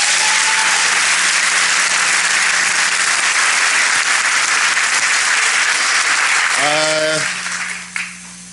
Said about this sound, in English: Please give a warm round of applause for your own Congressman, Artur Davis.